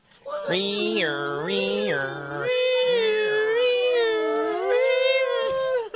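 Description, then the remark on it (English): A group of people loudly imitates an ambulance siren with their voices, a sustained wail that rises and falls in pitch, continuing for several seconds without words. “Now give me the sound of an ambulance.”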